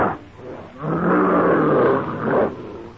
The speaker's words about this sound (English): The ferocious brute, a fearsome monster, climbs out of the pit. Swinging forward clumsily but swiftly, the hideous features contorted with black rage, the brute roars out his challenge.